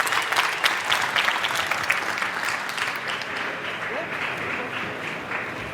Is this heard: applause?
yes